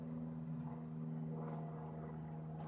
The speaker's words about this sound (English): There's always a plane flying over at the end. Did you ever notice that?